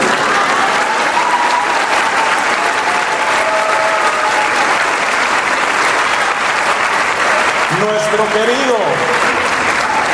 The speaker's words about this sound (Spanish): O sea que para ser un país visitado 5 veces por el Santo Padre ya canonizado Juan Pablo II, el aplauso que le dieron estuvo muy pobre.